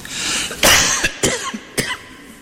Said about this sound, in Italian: Adesso mi è venuta la tosse